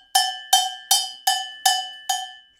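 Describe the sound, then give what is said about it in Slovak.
A traditional cast sheep bell, called liatovec or spieš, rings six times in an even, steady rhythm, each bright metallic clang with sustained high overtones that decay quickly before the next strike. No voices. “No a vypočujeme si, ako taký spieš znie.”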